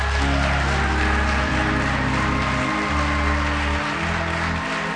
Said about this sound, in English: Come on, give them a hand clap of praise.